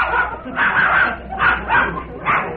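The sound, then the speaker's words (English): A dog barks and yips in a quick series of four sharp, bright bursts, moderately loud, with no voices over it. “Glad he had to bring a dog in here yet.”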